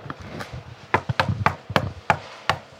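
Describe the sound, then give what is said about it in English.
Someone raps on the wooden door of a house in Los Angeles, about seven sharp, hard knocks in an uneven rhythm, each a crisp thud with a brief ring, with low background rumble and no talking. “Please knock loudly.”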